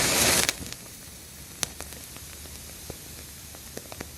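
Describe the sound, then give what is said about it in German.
A big lighter flares with a brief, loud rush of hissing flame lasting about half a second, followed by faint crackles and scattered small clicks as a cigarette catches. “Ich möchte mal jetzt die Kippe anzünden. Und da baue ich dann so ein ultra fettes Feuerzeug.”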